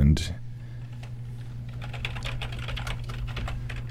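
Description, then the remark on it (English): Rapid, irregular clicking of keys on a computer keyboard, typed live during a CJSF radio broadcast, steady over a low constant hum, with no voices. “there we are, some live typing for you.”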